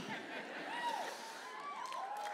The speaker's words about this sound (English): He looks a little flabbergasted. Little encouragement from the crowd.